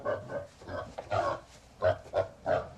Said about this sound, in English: Oh, this is quite a big pig. He looks very stubborn.